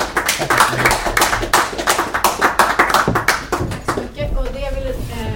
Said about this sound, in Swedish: Jag tycker vi ska ge en jättestor applåd för föreläsningen av för ert jobb.